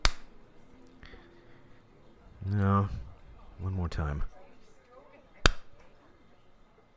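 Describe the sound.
A man slaps himself with his hand: a sharp slap on skin rings out at the start, then he speaks briefly, and a second crisp, loud slap follows a moment later before quiet returns.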